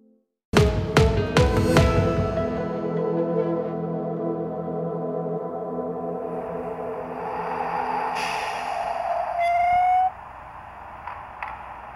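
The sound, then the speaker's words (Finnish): A small model railway train at the Nokela rail yard starts off, clanking a few times, then settles into a steady humming drone, ending with a rising whistle-like tone before cutting off. No one speaks. “Täällä Nokelan ratapihalla lähti juuri äsken juna liikkeelle. Se vähän vihelsi ja piti pientä junamaista ääntä. Kyseessä oli pienoisrautatie.”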